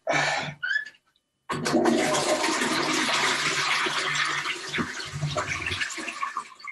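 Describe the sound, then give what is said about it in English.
A toilet flushes: a brief clunk of the handle, a short pause, then a loud rushing surge of water that swirls and drains steadily for several seconds. “And flush.”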